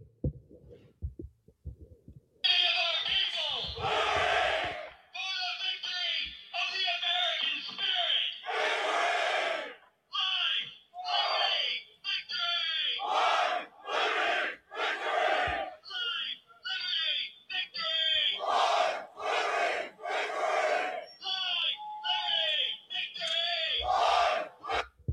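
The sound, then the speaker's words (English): A large crowd of masked white supremacists marches and chants slogans, screaming 'life, liberty, victory', in loud, rhythmic bursts, with muffled low thumps like marching underneath. The chanting is continuous and forceful, briefly pausing between phrases. “And they're going to be doing some marching and shouting, which actually does sound like neo-Nazis or something.”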